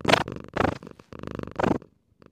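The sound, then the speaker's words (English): A cat named Tio purring, a steady rumbling broken into rhythmic bursts as it breathes in and out, with no talking over it. “Tio is my cat, if you don't know that already.”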